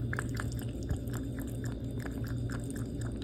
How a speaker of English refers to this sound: Yeah, this is an easy one because I sometimes will wake up or go to sleep to this sound. This is a cat. And they're drinking water. Okay, ding, ding, ding. You are right on both counts. It is a cat and it is drinking water.